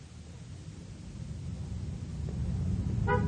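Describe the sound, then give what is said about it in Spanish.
A steady low rumble of vehicles and idling engines at a bus and car station with services to Temuco slowly grows louder, and near the end a short car horn honks once. No one speaks. “hallamos a Juan Carlos en la taquilla de la estación de autobuses y automóviles”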